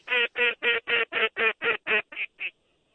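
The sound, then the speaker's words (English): A rapid, evenly spaced series of about ten loud, nasal duck quacks, with the final few growing softer and trailing off into silence. No talking. “Every time you call, the birds come.”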